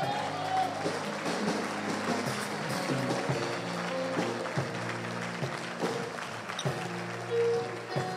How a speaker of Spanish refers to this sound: Oh, dale un fuerte aplauso al Señor.